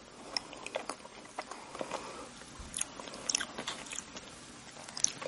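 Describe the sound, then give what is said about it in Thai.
Soft, moist chewing of chocolate cake, quiet, with gentle irregular mouth clicks and squelches continuing steadily and no crunch, and nobody speaking. “ลองฟังเสียงการรับประทานเค้กช็อกโกแลตค่ะ”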